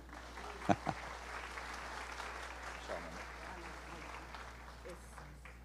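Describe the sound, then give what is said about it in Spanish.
A group applauds the teacher after a Bible lesson with dense, steady clapping lasting several seconds, a couple of sharper, louder claps standing out near the start, and faint voices mixed in beneath. “Un aplauso a la maestra.”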